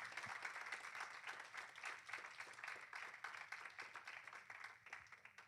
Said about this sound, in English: Somebody ought to give God a hand clap for godly sent shepherds.